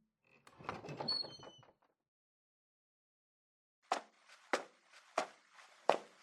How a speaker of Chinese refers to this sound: 所以啊，现在老公殿下的规矩已经没办法阻止我了，就让我打开门看看老公平时的工作状态究竟是什么样子的。